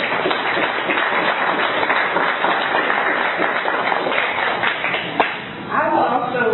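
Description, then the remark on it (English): Steady audience applause for people who have served an organization fills the whole stretch, a dense crackle of many hands clapping at even loudness, with one sharp louder clap near the end and a brief voice or cheer in the final seconds. “So let's give them a little bit of applause.”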